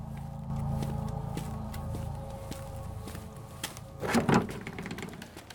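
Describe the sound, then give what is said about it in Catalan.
A door of a house being opened by a man at night: a run of quiet mechanical clicks and rattles, then a louder scraping burst near the end as it swings, with no voices. “giren sobresaltats cap a la porta i l'home va obrir.”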